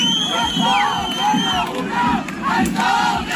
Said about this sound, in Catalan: I aquests són els crits que han llançat algunes persones quan ha sortit justament al correfoc la colla del presumpte agressor.